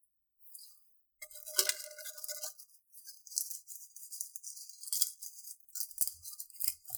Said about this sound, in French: Ça, c'est le craquement de feuilles que je vous ai ramené la fois.